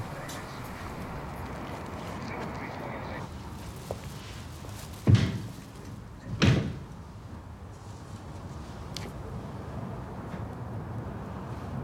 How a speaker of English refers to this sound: She swigs deeply from a bottle and walks towards the locked entrance. Pulling at the door, she peers through towards the caretaker's office.